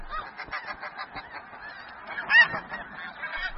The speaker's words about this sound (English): Exhausted and starving, they touch down inside the Arctic Circle, back at their traditional breeding grounds at last. Snow geese pair for life. As soon as couples arrive, they must stake a claim to a nesting patch.